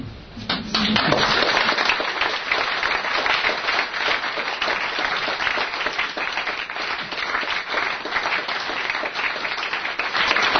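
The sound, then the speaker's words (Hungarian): An audience applauds steadily, a dense, crackling wash of many hands clapping that starts almost at once and stays loud and even for about ten seconds, with no voices. “Mondom azért, hogy a tapsokára majd egy következő visszatapsolás.”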